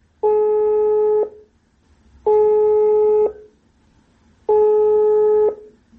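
An outgoing phone call ringing: three steady electronic ring tones, each about a second long, repeating at even intervals with short silences between, clear and close with no talking.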